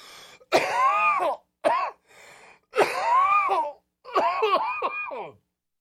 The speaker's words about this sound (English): I could be dying. What am I even coughing from?